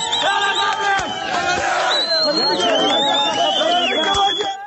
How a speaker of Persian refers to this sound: اینجا مریوان و فریاد شعار مشهور اعتراضات سراسری. زن زندگی آزادی که حالا روز و شب در خیابانهای ایران تنین انداز می شود.